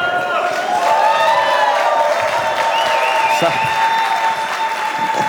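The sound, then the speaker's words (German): An audience at the third Julian Assange concert in the Musikbrauerei claps steadily and loudly throughout, a dense wash of applause with some whistling and cheering mixed in over the top. “Es kommen gleich zwei, die haben den Applaus verdient.”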